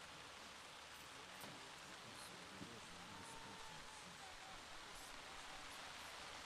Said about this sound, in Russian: Давайте, братья и сестры, скажем Господу наше желание, чтобы дождик на нашем территории остановился.